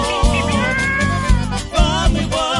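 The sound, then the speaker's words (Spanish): A drawn-out, wavering cat yowl rises and falls continuously for a few seconds, loud, with dull low thumps pulsing irregularly underneath; no one speaks. “suena como gato aullando.”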